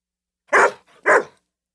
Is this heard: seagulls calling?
no